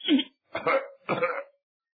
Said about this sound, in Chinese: 他又换了一套衣服，显得挺有精神，迈大步直接赶奔客厅。魏望里边走，先咳嗽了一声。